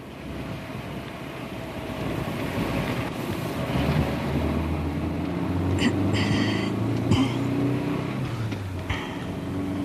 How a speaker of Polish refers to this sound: Co to tak strzela w silniku? Słyszysz, trzeba będzie dać wóz do przeglądu.